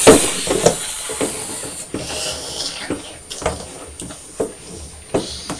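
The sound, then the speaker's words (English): Someone imitates a snake with a long, breathy hiss that pulses in several short surges over a few seconds, fairly loud and sibilant, with no clear talking. “Look, a snake coming.”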